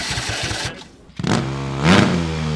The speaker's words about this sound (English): That second engine belongs to a hybrid race car built by the students at La Université de Sherbrooke in Quebec.